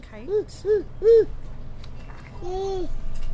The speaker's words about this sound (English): In the infant room at Gold Creek Child Development Center, children ranging from 6 weeks through 18 months nap, play, and gurgle under the watchful eye of their teachers.